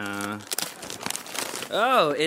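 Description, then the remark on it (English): Gift wrapping is torn open in a quick flurry of crinkling, ripping bursts lasting about a second, revealing a box of coconut-flavored LaCroix water, framed by a person talking just before and an excited voice right after. “choose a gift and open it up.”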